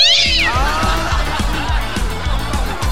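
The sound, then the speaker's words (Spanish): A single drawn-out cat meow rises and falls near the start, loud, over a steady, rhythmic low musical pulse that keeps repeating throughout. “Bueno, si va a hacer aseo, tenga cuidado con el gato, no le debe pisar la cola.”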